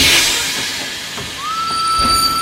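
train running on rails

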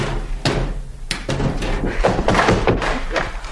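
knocking on a door

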